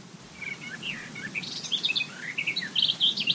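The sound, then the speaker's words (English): On a summer day, several birds chirp and warble continuously in quick, overlapping bursts, clear, over a soft low outdoor hum. No voices. “Ah, the sounds of summer. Birds, buzzing insects, a breeze”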